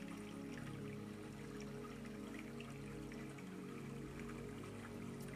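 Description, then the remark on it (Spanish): Soft, steady flowing water, a continuous gentle trickle with faint bubbling specks, mixed with a sustained low humming drone. No voices; the sound stays even and quiet throughout. “Y así como el agua fluye, así fluyen tus pensamientos.”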